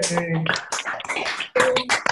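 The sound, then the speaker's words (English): Scattered clapping and overlapping cheerful voices from participants on a Citizens' Climate Lobby call, with all lines unmuted at the top of the hour, muffled and compressed as if coming through a phone line, with a brief break near the end. “I'm going to unmute all lines because we're at the very top of the hour, and we're just going to get a raucous round of applause from everyone on the line still.”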